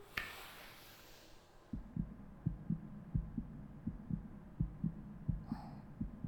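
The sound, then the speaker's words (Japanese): After a brief rustle, a person's fast, strong heartbeat thumps steadily, faster and stronger than usual, its deep, muffled beats repeating in a quick rhythm with no voices. “どれどれ、心臓の音聞いてみようかな。”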